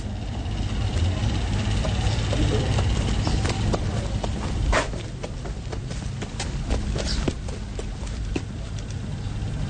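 Footsteps of someone pacing, a series of sharp, irregular taps on a hard surface, fairly close, over a steady low rumbling background with no talking.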